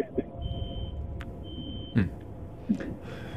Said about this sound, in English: He sounded like he was in a spaceship. No, or he's maybe backing like a truck up or something. You heard the beeping, right? That sounded like a spaceship.